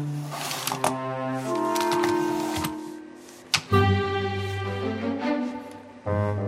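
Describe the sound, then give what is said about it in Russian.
Rapid clicks on a computer keyboard whose contacts are clogged, typing a greeting e-card to a grandmother, tap away beneath a sustained, tuneful musical backing, with a couple of sharper knocks standing out along the way. “Дэнни печатается.”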